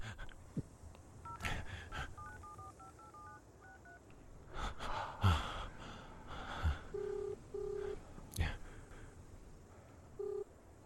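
A phone number is keyed in on a borrowed phone: a quick run of short touch-tone beeps, then a few slower, longer tones, with soft breathing and handling bumps and no talking.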